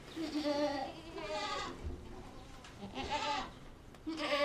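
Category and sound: animal, goats bleating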